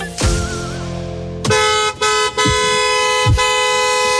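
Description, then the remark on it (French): A car horn honks loudly from a car whose driver is at the wheel, starting with one blast, then a short pause before a series of long, sustained honks with brief breaks between them. No one speaks. “Ça c'est Thierry au volant de sa voiture.”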